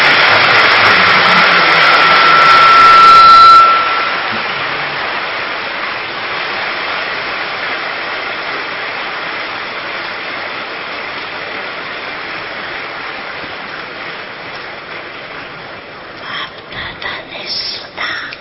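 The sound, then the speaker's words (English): An audience claps together for a youth group in a dense, hissing wash of applause, loudest for the first few seconds, then holding steady before thinning into scattered claps near the end. “All of you clap for the youth.”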